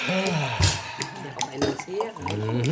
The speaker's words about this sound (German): Nachdem Vautrin Rastignac und Vater Goriot eingeschenkt hatte, kostete er ein paar Tropfen und verzog sein Gesicht.